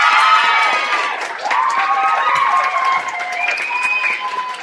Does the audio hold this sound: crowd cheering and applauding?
yes